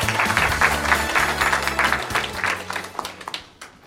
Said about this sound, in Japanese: 証券コード7825東証一部上場ダンロップスポーツ株式会社代表取締役社長木滑和夫さんです。どうぞ皆様大きな拍手をお願いいたします。